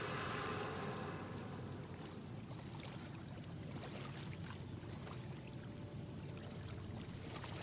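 water flowing

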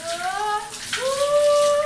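shower water running

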